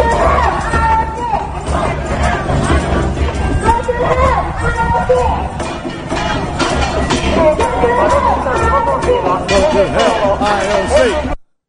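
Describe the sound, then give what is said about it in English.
A large protest crowd in Japan marches through the streets against the IOC, a dense, continuous wash of many voices shouting and chattering, with chants and cries rising over a steady loud rumble throughout. “They're marching through the streets.”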